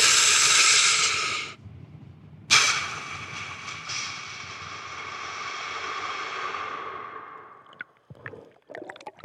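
Deep, forceful breathing very close to the microphone: one loud breath cuts off, then after a short pause a long drawn-out breath slowly fades, followed by a few soft clicks.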